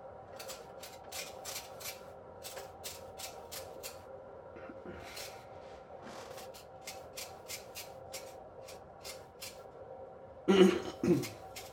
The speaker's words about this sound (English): The noise that you're hearing is the refrigerator. Makes that crazy noise.